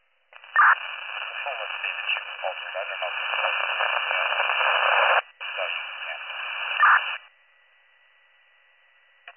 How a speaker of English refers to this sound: All I got was static.